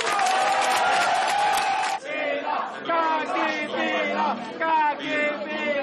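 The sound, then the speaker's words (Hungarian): At the Együtt PM party's event, a loud crowd roars, laughs and cheers at Vona Gábor's words, then breaks into rhythmic chanting, many voices shouting repeated syllables in unison with a steady, pulsing beat. “Az Együtt PM-nél hangos nevetéssel és skandálással fogadták Vona Gábor szavait.”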